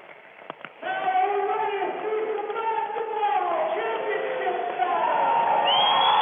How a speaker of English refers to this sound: And you can hear the crowd. The stands are full.